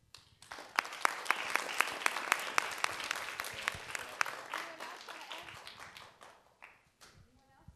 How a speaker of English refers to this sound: Well, let's give one more round of applause for our wonderful LA Galaxy folks.